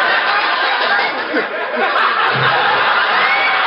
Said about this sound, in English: Did you hear that applause just then? That was Ray Block trying to keep himself awake, I think.